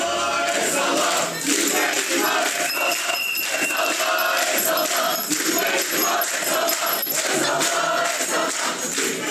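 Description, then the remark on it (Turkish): A large crowd of school students chants "El salla, el salla, zübbe imam el salla" at a fellow student dressed as an imam in turban and robe at the lectern; loud, sustained chanting, voices blending into a dense continuous roar with rhythmic surges throughout. “Bu tezahüratları dışarıdan duyan birisi irkilebilir.”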